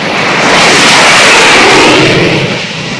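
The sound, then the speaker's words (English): Jet aircraft engines on the flight deck of a Navy aircraft carrier off the coast of Vietnam roar loudly and continuously before launch, a harsh, hissing, high-pitched blast that holds steady throughout and eases slightly at the end, with no voices. “Its flight deck shrieks with jets impatient for launch.”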